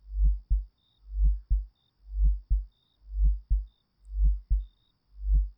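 A steady heartbeat thumps in a low, muffled lub-dub rhythm, about six beats repeating evenly, with a faint high beep pulsing in the background.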